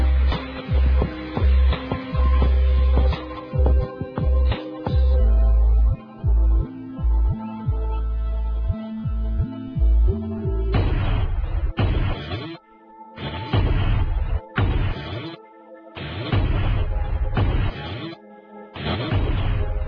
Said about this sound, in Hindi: ओ, एक बड़ा धमाका, टावर गिर रहा है, हमें यहाँ से निकल जाना चाहिए।